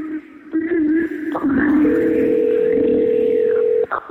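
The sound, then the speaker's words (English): A phone ringback tone sounds once, a steady two-second electronic burr heard while calling someone back, over a busy background of muffled voices and room noise. “I am calling back. It's ringing.”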